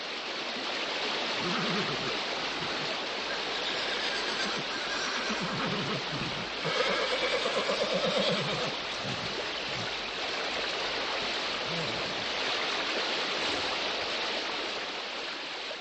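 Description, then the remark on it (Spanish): The swift current of the Moldava (Vltava) river rushes steadily and loudly throughout, a dense, unbroken wash of churning water with no speech, swelling slightly around the middle before settling back to its constant roar. “Iba montado en un caballo, y en cierto momento el animal resbaló, y la veloz corriente arrastró al caballo y al jinete.”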